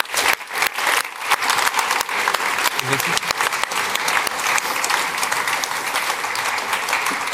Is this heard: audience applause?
yes